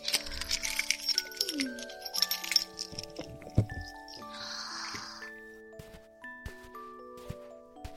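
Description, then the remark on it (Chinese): Bright metallic jingling and clinks of a key ring, followed by scraping and rattling as a key works a door lock, with a soft thud and faint clicks trailing off. Someone finds their keys and unlocks the door after no one answers. “还好我带了钥匙。”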